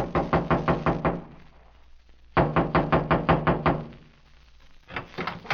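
Three bursts of rapid knocking on the door of a trailer in a clearing, each a quick run of six or seven sharp, hollow raps, with short pauses between bursts. No one speaks.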